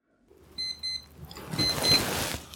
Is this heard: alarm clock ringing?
yes